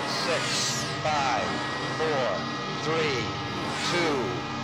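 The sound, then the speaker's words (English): Rocket engines ignite in a dense, steady roar that fills the whole clip, with a voice speaking over the thundering blast. “All engine running.”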